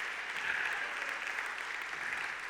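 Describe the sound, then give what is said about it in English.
An audience at a morning church service claps their hands in praise in a steady, dense wash of applause, bright and sustained across the whole stretch with no talking over it. “Would you clap your hands in this house and praise him this morning?”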